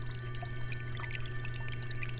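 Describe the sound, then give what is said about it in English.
Steady, soft trickling and splashing of water cascading down the three tiers of a pineapple garden fountain over 4 feet tall and 32 inches in diameter, continuous, with a low hum underneath and no voices. “Enjoy the sight of the water cascading down the three tiers and the soothing trickling sounds that fill your space to create a peaceful environment.”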